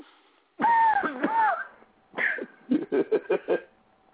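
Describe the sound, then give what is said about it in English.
An exaggerated, drawn-out yawn with a wavering voiced tone, followed by a string of short, breathy huffs and gasps, fairly loud, with no talking. “It was me trying to yawn, but failing miserably.”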